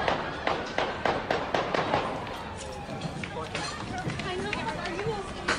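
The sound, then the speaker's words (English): A rapid burst of sharp gunshots cracks out at night over a busy street at the corner of 14th and Riggs Street Northwest in Washington, D.C., an area of restaurants with many diners outside, then gives way to a noisy crowd commotion with scattered voices and hurried footsteps as people run. “Last night, the sound at the corner of 14th and Riggs Street Northwest in a very busy area of the city, a lot of restaurants, a lot of people outside, diners, all of a sudden, gunshots. Like fireworks.”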